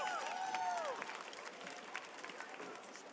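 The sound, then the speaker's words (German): The team audience applauds steadily, a dense wash of clapping with a few brief whistles or cheers rising over it in the first second. “Vielen, vielen Dank und das ist nochmal euer Applaus, das Teampublikum.”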